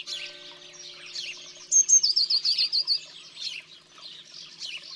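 A small bird chirps in a quick run of high, bright notes, with a rapid trill in the middle, over a busy background of other faint twittering birds.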